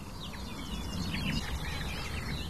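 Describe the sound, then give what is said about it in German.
A barred warbler sings a rapid, scratchy stream of high chattering notes with mimicked phrases woven in, steady and fairly quiet over a low background rumble. “Und all diese Ablenkungen meiner Wahrnehmung lässt einfach diese Grasmücke vor mir singen und singen und singen. Boah, da waren Imitationen eben drin.”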